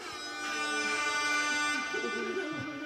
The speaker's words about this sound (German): Oder eine Tröte.